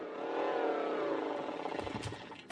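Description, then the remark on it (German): Schubia's flying witch's broomstick, Feuerfeger, swoops in with a loud, engine-like whine that swells and holds, then breaks up into rattling, clattering bumps as it lands. “Hey, klingt ganz nach ihrem Feuerfeger.”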